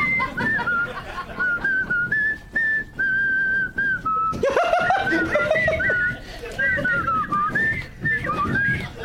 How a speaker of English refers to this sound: I can't whistle without my fingers.